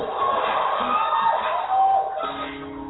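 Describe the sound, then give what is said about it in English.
A crowd claps steadily in a dense, continuous wash of applause, mixed with scattered shouts and whoops from the audience, filling the whole few seconds at a fairly loud level. “I'm like, all I hear is clapping.”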